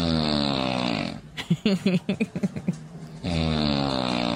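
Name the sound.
imitated snoring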